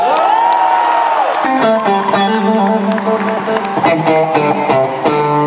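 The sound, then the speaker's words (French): A concert crowd applauds and cheers loudly and steadily as a guest singer is invited on stage to accompany the headliner on guitar, with high whoops and shouts rising over a dense wash of clapping, as sustained musical tones ring out beneath. “Je vais vous entendre applaudir très fort”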